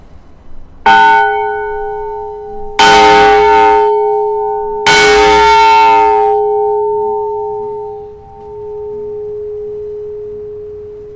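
A large, heavy bell is struck three times at a slow, steady pace, each clang ringing out loud and close before a long humming tone lingers and fades.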